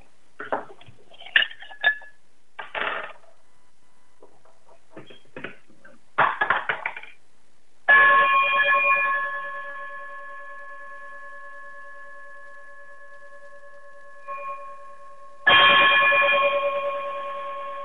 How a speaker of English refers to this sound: if you'd be so kind, brother, to chime us out of here.